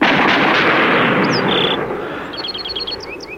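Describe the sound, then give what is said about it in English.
A firing squad fires a volley on a sandhill: one loud, crackling blast that rolls on for over a second and slowly fades, followed by scattered high bird chirps. “Ready? Aim! Fire!”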